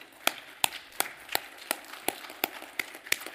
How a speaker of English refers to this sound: And I don't think it would hurt to give a round of applause to them for serving our country.